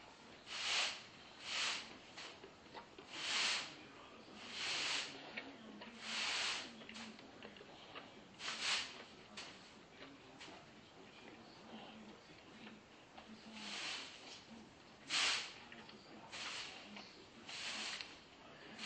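A horse blows air through its nostrils in a long series of breathy, hissing puffs, each a short rush of air, repeating at an uneven pace with no talking.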